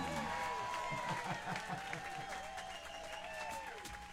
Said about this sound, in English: How about a nice round of applause